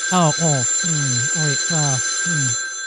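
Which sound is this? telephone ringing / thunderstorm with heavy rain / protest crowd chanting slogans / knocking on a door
telephone ringing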